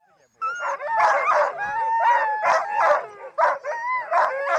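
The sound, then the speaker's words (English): A chorus of excited sled dogs barking, yipping and whining nonstop at their kennels on a foggy day in Big Lake, Alaska, as a musher pulls them out for training runs a week before the Iditarod, many voices overlapping in rapid bursts, loud, with no talking. “is pulling dogs from their kennels for the final set of training runs.”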